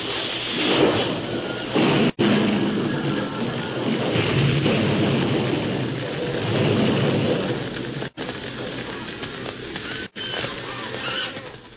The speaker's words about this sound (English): Looked up to see the flaming roof about to crash upon them.